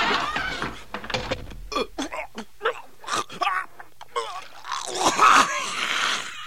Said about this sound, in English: Wow. How does a door make a noise like that? You know, I got a theory. Maybe this door is different because it's our door.